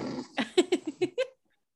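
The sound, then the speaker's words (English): A person imitates loud snoring: a raspy, breathy rumble, then five or six quick, throaty snorting bursts in a rapid rhythm that stop abruptly into silence. “If you're snoring like that, you might want to get that checked out.”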